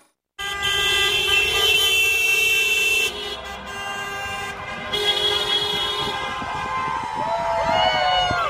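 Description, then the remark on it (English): A dense chorus of car horns honks nonstop in the streets of downtown Seattle in celebration of the Seahawks, many overlapping toots and long blasts blending into a loud, continuous celebratory din that lasts throughout. “Speaking of driving around and honking your horn.”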